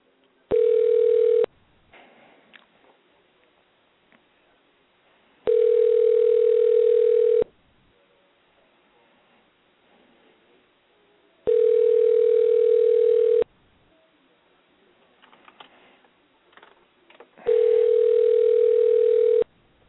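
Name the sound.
telephone ringing unanswered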